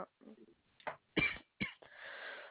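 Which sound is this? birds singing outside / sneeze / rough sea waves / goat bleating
sneeze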